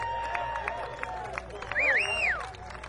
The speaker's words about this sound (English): Let's give the band another round of applause. Come and do it.